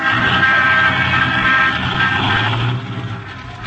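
Car horns blare in busy traffic at a car that is holding up traffic, a loud, sustained honking over a low engine rumble that eases off near the end.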